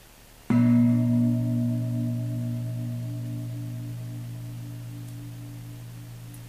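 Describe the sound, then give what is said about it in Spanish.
A single meditation gong is struck once during a guided breathing meditation, a deep resonant tone with layered low harmonics that rings on and slowly fades over several seconds, with no voices. “La próxima vez que suene el gong, nos concentramos en el labio superior.”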